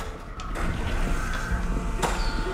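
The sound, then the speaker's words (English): Double doors in a corridor, opened with a code, swing closed over a low, steady hum, ending in a single sharp thud near the end. No one speaks. “enters a code to open the double doors, then leads Hero, without any resistance, down the corridor, and they swing shut again”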